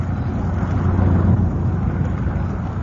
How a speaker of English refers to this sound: What's that? Oh, don't worry, Mr. Mannering. It's only the aeroplanes taking off. Sissy and I got quite used to them.